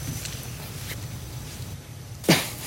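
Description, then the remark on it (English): A single abrupt, fairly loud smoker's cough bursts out near the end after a stretch of steady low background hum, with no one talking. “I got a smoker's cough a little bit.”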